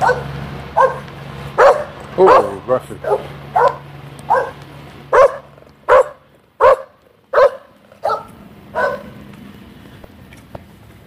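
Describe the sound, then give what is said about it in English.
Dogs bark repeatedly in a steady series of sharp, loud yaps, about a dozen barks over several seconds, with a low rumbling hum in the background early on. “Dogs barking, cement trucks going.”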